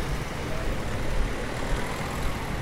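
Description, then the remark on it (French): Steady roadway noise from cars turning at a street crossing while the light is green, a continuous low engine rumble and tire hiss with no pauses and no voices. “Malgré que c'est vert, attention, les voitures tournent ici.”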